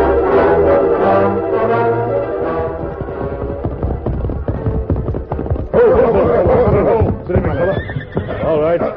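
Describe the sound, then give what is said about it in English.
As horses, including Silver, are called over to be saddled and ridden, a horse whinnies in a long, wavering high-pitched call, with hoofbeats clopping underneath and a second burst of neighing and snorting later, loud over a busy background. “Here, horses.”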